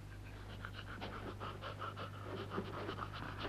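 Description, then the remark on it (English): An old dog pants rapidly and steadily throughout, quick rhythmic breaths following one another over a low, constant background hum, with no talking. “Now, what's that dog you've got there? Oh, 'tis Nab, sir, my old dog.”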